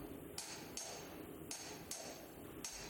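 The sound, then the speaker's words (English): Hammers strike copper five times in an uneven rhythm, each blow ringing bright and metallic before fading, over a steady murmur of busy background noise in the copper market of a bazaar. “Yes, the familiar sound of hammers on copper.”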